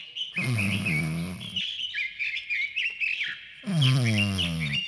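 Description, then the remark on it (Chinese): Small birds in an old tree chirp and twitter busily and continuously in a high, bright chatter, while two bursts of a deep, rumbling low sound rise underneath at the start and end. “老树上呢，这个时候是吱吱喳喳叽叽喳喳的这个小鸟啊，他们呢怕吵到森林之王啊，他们呢也不约而同的突然一起降低了音量。”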